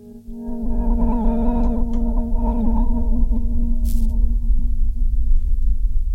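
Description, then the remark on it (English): Two DIY Fairfield Shallow Water modulation pedals side by side at the end of the chain, strength and rate turned up, churn out a low, steady rumble with warbling, pitch-bending tones wavering over it, sustained and loud for several seconds with no talking. “That sort of rumble.”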